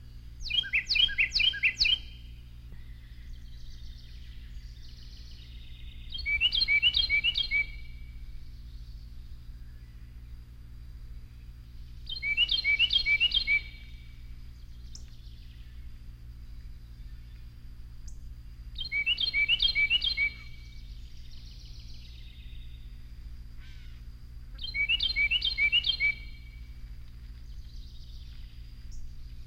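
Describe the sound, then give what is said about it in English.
A Carolina wren sings a variant of its song: five loud, rapid bursts of repeated ringing phrases, each lasting about two seconds, spaced evenly with quiet gaps and a low steady hum underneath. “Carolina wren has at least one variation in its song. Here is one of those variations.”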